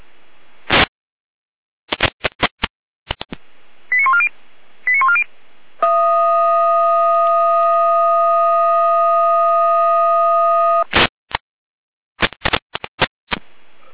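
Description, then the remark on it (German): Radio alerting tones from the fire brigade dispatch centre (Leitstelle) in Jena, Germany: crackling bursts of static, two brief warbling tone sequences, then a loud, steady multi-pitched tone held for about five seconds, followed by more clicks and bursts. “Achtung, Leitstelle mit Alarmierung.”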